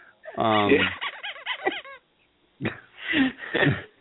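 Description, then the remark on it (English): A rubber chicken lets out a loud, wheezy honking squawk with a wobbling, warbling pitch, then after a short silence two more throaty squawks follow. “As the rubber, as we hear the rubber chicken sound.”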